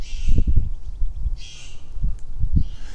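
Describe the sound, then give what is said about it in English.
Big birds, blue jays, squawk from the trees by a creek in harsh, raspy bursts, three loud calls spaced across a few seconds, over low rumbling background noise outdoors. “Yes, you're very squawky. Look around for squawkiness. Looking up in the trees for big birds.”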